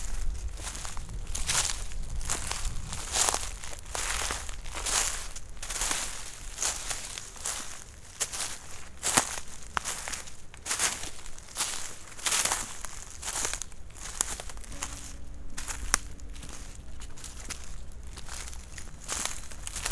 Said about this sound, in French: Feuilles mortes, croustillantes.